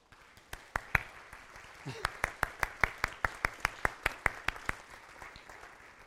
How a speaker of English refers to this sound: Let's just thank God. Let's just clap.